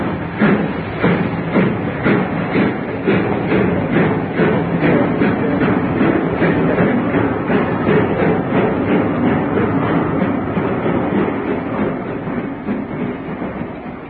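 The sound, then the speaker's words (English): A train rolls past, departing, its wheels beating out a steady, rapid clickety-clack over a heavy rumble that eases off slightly toward the end as it pulls away. “I should have been on that train.”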